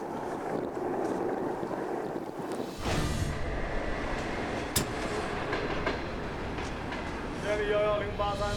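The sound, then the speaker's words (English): A train rumbles steadily along the tracks at Lugor Railway Station in the Gobi Desert, China, on the only line connecting Xinjiang to the rest of China. It is a continuous roar that swells after a quieter start, with a thin metallic squeal near the end and indistinct voices underneath. “The only line that connects Xinjiang to the rest of China runs through here, and Lugor Station is where it connects with the Dunhuang Railway.”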